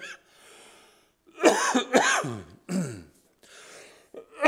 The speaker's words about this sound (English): I'm sorry, I'm embarrassed. I'm coughing like that. I apologize.